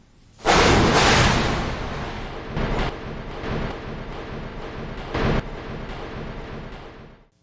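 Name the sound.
thunder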